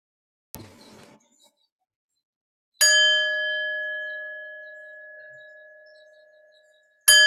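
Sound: meditation bell ringing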